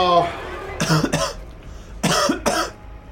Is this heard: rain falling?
no